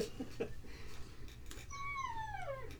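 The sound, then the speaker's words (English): A dog outside, waiting to be let in, whines in Niagara Falls in January: one high, drawn-out cry that slides steadily downward in pitch near the end, after a few brief faint yips, over a low steady hum. “Let your fucking dog in, asshole. Aw, he's like, yep.”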